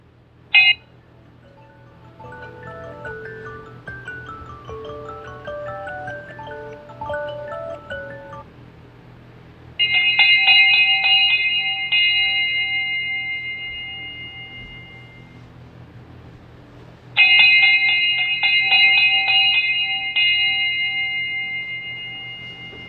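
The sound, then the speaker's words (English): A wake-up alarm plays a short electronic chime melody, then two loud, bright ringing bursts a few seconds apart, each slowly fading, with a low steady hum underneath and no talking. “We got our morning wake-up bell.”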